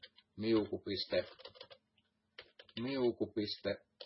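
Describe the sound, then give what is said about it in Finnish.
Rapid clicking of computer keys as someone writes program code runs under a person talking, with moderately loud keystrokes that come in uneven bursts and pause briefly midway. “no, kuka mun näppäimistö on rikkonut, tostream.”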